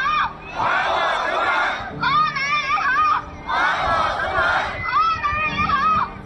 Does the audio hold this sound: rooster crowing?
no